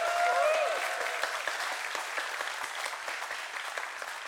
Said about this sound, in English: But how about a round of applause for our ladies that were here today?